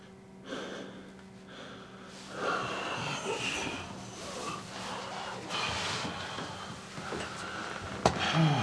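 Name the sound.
heavy labored breathing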